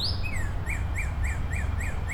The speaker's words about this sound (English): I can hear cardinals calling at me. There's a lot of birds in here. I can still hear that male cardinal. I can't see him anywhere, but I can hear him.